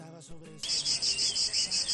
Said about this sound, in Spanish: ¿Es de las cigarras, Mónica? Sí, un insecto que a pesar de su gran tamaño, oye, pueden llegar a medir hasta 6 centímetros, se camufla perfectamente entre las ramas de los árboles, en parques, jardines, calles, pero que nos deleita, eso sí, con un